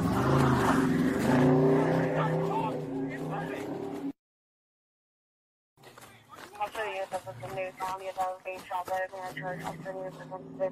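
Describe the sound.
On body camera footage of a traffic stop in Newton, Ohio, a car engine roars loudly for a few seconds as the car drags a police officer. It cuts to a brief silence before agitated voices shout over continued road and engine noise.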